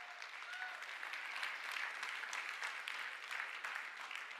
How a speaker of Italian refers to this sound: Forte questo applauso per Gesù.